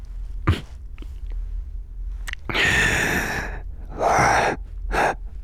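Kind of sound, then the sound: human body sound, heavy breathing and gasping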